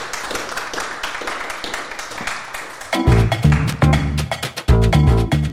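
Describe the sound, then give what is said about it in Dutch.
A burst of audience applause, a dense crowd of clapping for a few seconds, then loud, bright music with a heavy bass takes over while the clapping fades beneath it. “Mag ik een hartelijk applaus”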